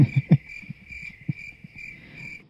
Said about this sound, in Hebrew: פעם היה לנו צרצרים יותר טוב. זה היה כזה וואפ וואפ וואפ. זה לא צרצרים, זה וואפ וואפ וואפ.